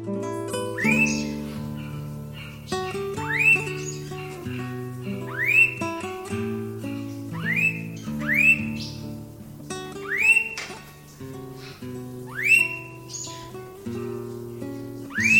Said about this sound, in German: Das war der Blauohr-Honigfresser.